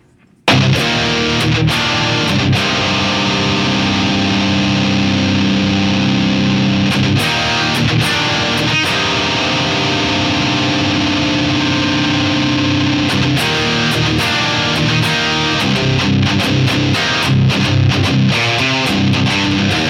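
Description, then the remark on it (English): A loud, distorted electric guitar plays sustained chords and riffs through an amp set to an alt reverb preset that brings out the treble, bright and reverb-washed, ringing continuously for nearly the whole stretch with no talking. “So now that we're in that preset, alt reverb to bring out the treble a little more.”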